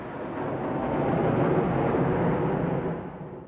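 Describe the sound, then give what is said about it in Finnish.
A loud, broad roar of fighter jets flying over Moscow in a flyover held in place of the Victory Day parade swells quickly, holds steady for a couple of seconds, then begins to fade as the aircraft move away. No voices. “voiton päiväparaatin sijasta saavat moskovalaiset tyytyä hävittäjien ylilentoon.”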